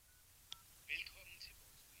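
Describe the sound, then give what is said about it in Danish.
A few short electronic phone beeps, like dialing tones, sound faintly through a phone line after a brief click as a person calls their own phone to reach voicemail, with quiet background hiss and no clear speech. “Hvad hvis jeg ringer til mig selv?”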